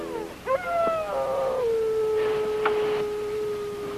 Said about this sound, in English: did you wake me up just to listen to a dog bark?